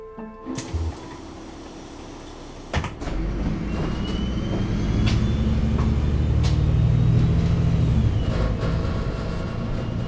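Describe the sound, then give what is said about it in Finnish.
Steady low engine rumble and road noise from inside a moving bus on the way home, swelling slightly as it picks up speed, with a couple of sharp clunks early on and no voices. “Istun bussissa matkalla kotiin.”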